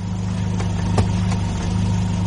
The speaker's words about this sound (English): My mind was flooded with violent sounds and images, which had the odd effect of destroying surprise when the car drew up beside me.